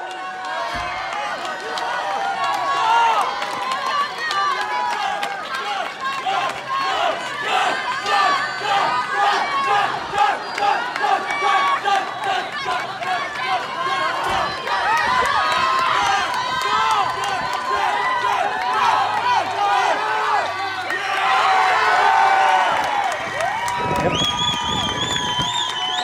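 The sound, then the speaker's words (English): A loud, dense crowd at a pool cheers and shouts nonstop for about twenty-five seconds during a swimmer's 50 freestyle at a CIF Southern Section all-abilities swim meet, many overlapping voices yelling and whooping with excited rises and swells, building toward the end. “I want you to listen to the crowd and just watch the perseverance it takes.”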